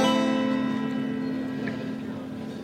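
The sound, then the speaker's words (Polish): A steady, tonal mechanical whine with a low rumble as a train pulls away from a station platform, gradually fading as it recedes; no voices are heard. “Ten pociąg chyba odjeżdża i przyjedzie chyba nasz zaraz.”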